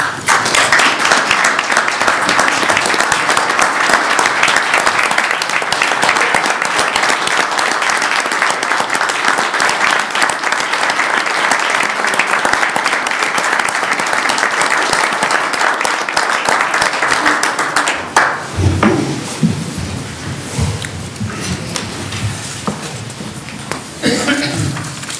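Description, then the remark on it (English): Sustained applause from a sizable audience thanking the town's mayor for his 24 years of service, loud and steady for about eighteen seconds, then dropping off abruptly as a voice begins speaking over the fading claps. “Well, I appreciate the sentiment and the applause.”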